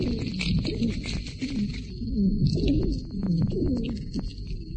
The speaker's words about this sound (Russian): В разгаре приступа очень затруднен выдох. Дыхание становится еще более шумным и свистящим. Выслушивается большое количество разнообразных сухих хрипов, среди которых преобладают свистящие.